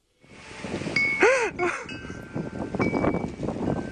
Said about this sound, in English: What's that noise? Is he near a wind chime? Apparently.